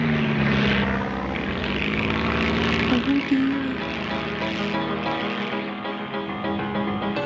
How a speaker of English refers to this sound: Looking down, Jester could see the other toys getting smaller and smaller as the little plane climbed further into the air. Jolly good fun, isn't it? yelled the commander as he steered the plane even higher.